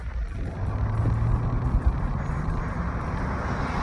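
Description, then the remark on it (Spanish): Steady roar of Los Angeles highway traffic heard through an open car window, a dense wash of road and wind noise with deep engine rumble and a passing heavy vehicle's low drone, no voices. “A ver, voy a bajar la ventanilla, a ver si se escucha, cómo se escucha la ruta de Los Ángeles.”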